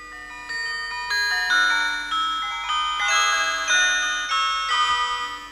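A telephone ringing with a bright electronic melody, a steady run of short stepped tones that repeats, fairly loud, with no voices, while a family is eating lunch at midday.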